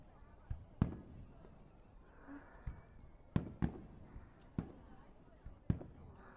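Fireworks pop and thud in an irregular series of sharp bursts, about seven or eight over a few seconds, with a low rumble between them; the sound is fairly faint and spacious.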